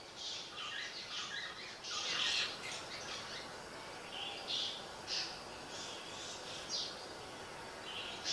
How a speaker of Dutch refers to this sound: En terwijl je daar blijft zitten en je hoort de vogels die daar ook als hun schuilplaats vinden.